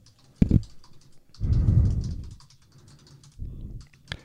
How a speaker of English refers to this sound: See, my eyesight is just bad enough that I can't really make out the words that he's typing, so the anticipation to see what he ends up saying is, like, actually real for me.